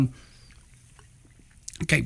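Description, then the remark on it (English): After a quiet stretch, a short slurping sip of Coke Zero from a can comes at the very end, wet and brief. “Take a sip of this delicious Coke Zero.”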